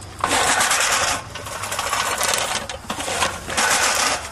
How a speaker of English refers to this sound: But the way you do it is really not much different than a sighted person with a power mower.